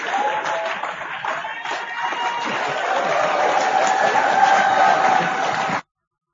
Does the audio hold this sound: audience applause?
yes